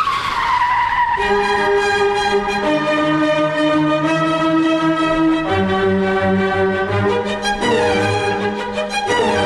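A long, loud car tire screech from hard braking, a shrill squealing wail that holds and shifts pitch for about nine seconds with no letup and no voices.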